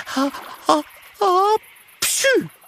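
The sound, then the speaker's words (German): A voice acts out the sneeze of a story character who has a cold: three drawn-out, rising breathy 'ah' sounds build up, then a loud, explosive 'choo' that trails off downward, clear. “und muss plötzlich niesen.”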